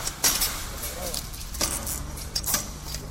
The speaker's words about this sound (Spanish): Lo primero, quitar las bridas de las vallas para poder entrar.